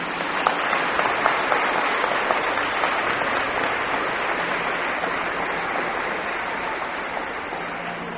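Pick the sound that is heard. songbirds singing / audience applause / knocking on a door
audience applause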